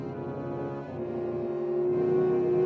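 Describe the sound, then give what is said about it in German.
Church bells ring out at midday in Schweigen, their overlapping tones blending into a rich, sustained metallic hum that swells louder toward the end, with no voices present. “Und in diesem Moment begann es in Schweigen Mittag zu läuten.”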